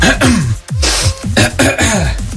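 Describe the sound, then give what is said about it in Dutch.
A voice imitates a man at the gym repeatedly clearing his throat and sniffing, a series of rough, raspy hacks and snorts in quick succession, fairly loud, with no spoken words. “Zijn keel schrapen en met zijn neus sniffen.”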